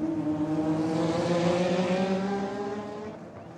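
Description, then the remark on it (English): Race car engines roar loudly and continuously in a high, buzzing whine that shifts slightly in pitch, then eases off toward the end. No one speaks. “Instead of musicians, now I was capturing the sound of car racing, tennis, baseball, football, whatever they sent my way.”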